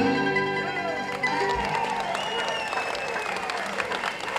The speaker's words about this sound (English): Oh, thank you. Much obliged. You're wonderful. We appreciate the nice applause.